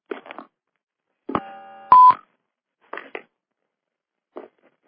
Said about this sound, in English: And I think I heard maybe a beep there. Does the caller come on?